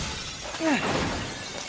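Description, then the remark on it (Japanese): Glass shatters in a single sharp crash in a narrow stairwell, right after a sudden gust, with bright shards tinkling and ringing briefly before fading into a low background hiss. “予想通りかよ。突風の次はガラスか。”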